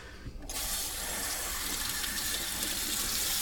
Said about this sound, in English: Finally. God, now I gotta put water back in it.